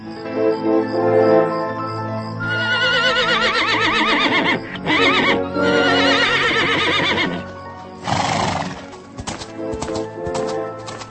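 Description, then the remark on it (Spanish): Knights' horses whinny with loud, wavering neighs over a low rumbling bed on a summer night as they are watered at the Jehun pond by the Oshkoberg hill, then hooves clop in a quick, uneven run of sharp knocks toward the end. No one speaks. “En las noches de verano salen del seno del Oshkoberg unos caballeros que se adiestran en el manejo de armas y abrevan sus caballos en el cercano estanque de Jehun.”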